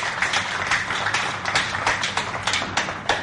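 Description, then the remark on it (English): A crowd applauds steadily for a few seconds, a dense, fairly loud patter of many hands clapping at once with sharper individual claps standing out, and no one speaking over it. The applause is for the excellencies attending the gathering. “We should all applaud the excellences here for being with us today.”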